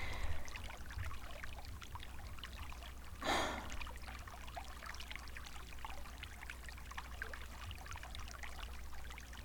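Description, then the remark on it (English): Steady trickling hot water runs throughout at a soft, even level, with one brief louder splash of pouring water about a third of the way in. No one speaks. “Even the hot water isn't enough to stop me from shaking.”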